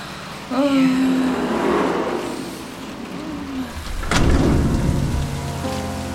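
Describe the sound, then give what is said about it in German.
Heavy rain hisses steadily throughout, then a sharp crack of thunder breaks out and rolls into a deep rumble. A few faint tonal sounds briefly rise above the downpour. “20 Männer warteten dort im Regen.”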